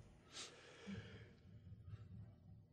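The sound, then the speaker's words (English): A single, fairly quiet yawn: a sharp breathy intake followed by a long, low, drawn-out voiced exhale that trails off with a soft breath. No one speaks. “Oh, there was a yawn. Thought you were gonna cough.”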